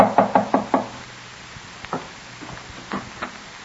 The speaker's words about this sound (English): A year and a half later, in the small Geneva boarding house where she keeps a room, Elizabeth hears a knock at her door.